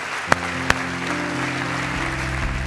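A church audience at Victory Family Church applauds steadily, a dense wash of clapping over a low sustained hum, with two sharp louder claps standing out near the start.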